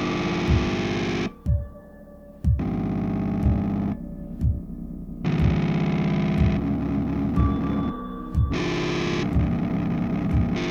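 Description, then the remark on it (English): A dark, chaotic electronic soundtrack of harsh, distorted synthetic tones, with dense buzzing layers that cut in and out abruptly and a low, pulsing thud recurring roughly every second underneath. No voices. “The tones in this are absolutely not organic. No. But they're used very organically.”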